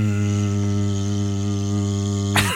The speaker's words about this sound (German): Ja, das ist auch dieses Rotorengeräusch vom Hubschrauber ist auch perfekt zum Einschlafen, ne?